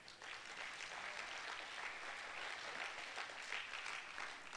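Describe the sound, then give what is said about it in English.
A crowd claps steadily for several seconds, a dense, continuous patter of many hands at moderate volume with no voices rising above it. “That was so good, somebody will clap your hands.”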